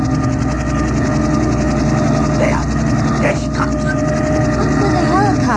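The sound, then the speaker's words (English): A helicopter coming in from the east, flying in a hired couple, with a loud, steady engine drone and a layered mechanical hum that fills the scene without letup, while brief voices cut in faintly over the noise. “What's that noise, Father? The helicopter.”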